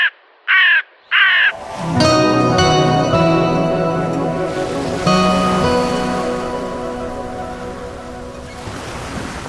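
A crow gives three quick, harsh caws, then a steady, loud wash of rushing, surf-like noise with ringing tones takes over and slowly fades.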